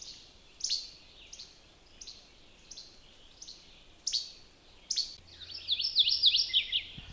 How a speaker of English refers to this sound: I think you can hear that. It's a fairly loud song. It's a morning warbler. They're very much at home in brushy areas, also the edges of things, which tend to be brushy. This is the edge of an old road, and he's apparently nesting along there.